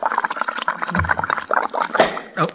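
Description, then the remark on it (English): Liquid is poured into a shaving mug, a steady splashing and gurgling that runs for a couple of seconds with a few brief swells. “Pour some of this in the shaving mug.”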